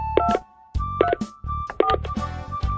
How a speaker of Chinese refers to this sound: 好啊，我现在就打电话联络大家。